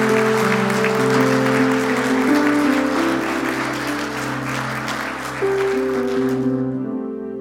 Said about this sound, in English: Let's give him a round of applause as he makes his way off stage.